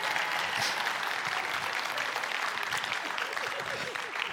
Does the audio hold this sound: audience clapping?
yes